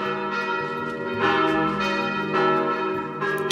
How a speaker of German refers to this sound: Klingt wie Kirchenglocken, soweit sind wir uns einig.